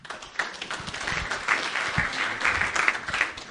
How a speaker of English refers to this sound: why don't you give him a round of applause? Thank you so much.